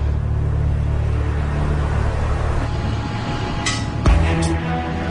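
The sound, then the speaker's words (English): Engines of 215 water bomber aircraft, warmed up after hours in a hangar, run at a steady idle, a deep, continuous droning rumble with a low harmonic hum. A few brief metallic clinks break through near the end. “After hours in the hangar, the 215s are finally warmed up enough to fly.”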